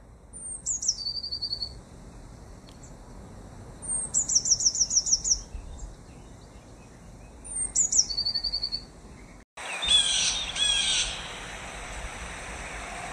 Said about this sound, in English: The tits chirruped.